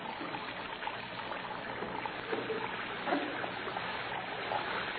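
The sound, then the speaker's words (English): Water runs and splashes steadily from a plugged, overflowing basin onto the floor of a cell, a continuous trickling rush that stays even for the whole stretch, with no voices over it. “Plug up your basin and let the water run on the floor.”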